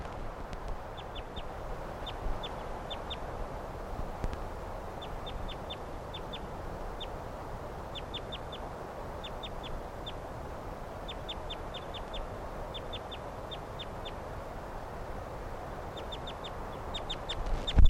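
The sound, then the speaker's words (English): A flock of wild birds calls over and over with short, high-pitched chirps, often in quick pairs or triplets, above a steady low rumbling background. Some of the birds are beside a car, by the microphone. Nobody speaks. “And the birds, some of the wild ones came right here and wanted to perch on the microphone.”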